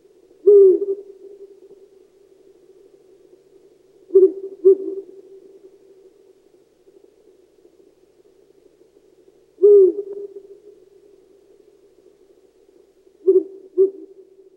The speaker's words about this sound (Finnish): Tänään Pöllöpuheita sarjassa kuullaan tämän huhuilijan Viiru Pöllön hämmästyttävästä sopeutumiskyvystä. Helsingin yliopiston tutkijat seuraavat 140 Viiru Pöllön elämää Lahden ja Heinolan ympäristössä.